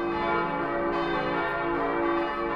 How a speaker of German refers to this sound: So ergeben die vier kleinen Glocken ein strahlendes F-Dur und die vier großen ein feierlich ernstes D-Moll.